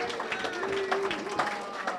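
Steady audience applause, a dense, continuous patter of many hands clapping at an even level for two seconds, with a few faint whoops or whistles rising through the noise.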